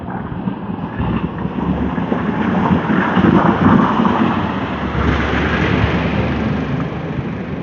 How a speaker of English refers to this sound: Saturday garbage truck.